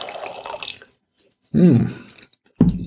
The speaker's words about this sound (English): And I'll have to pour a little bit more wine for that.